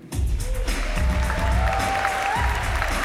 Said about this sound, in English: When Mitten walks on stage, the crowd bursts into applause.